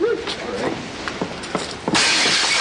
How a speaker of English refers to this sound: Oh, I can't believe you're doing this. Can't men ever work out their emotions without smashing and breaking things?